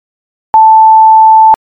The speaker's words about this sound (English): You have reached the patented SF0 mail of voice system. If you wish to leave a mail of voice, please leave a mail of voice following the highly volatile SF0 medium frequency low density beep.